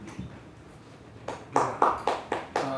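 One person in a courtroom claps their hands in a steady, fairly quick rhythm, about half a dozen sharp claps after a quiet start, with no talking.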